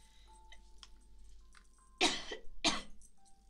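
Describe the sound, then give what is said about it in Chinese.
Two harsh, forceful coughs in quick succession, loud into the microphone against a quiet background with a faint steady hum. “现在一直想咳嗽了，我操！”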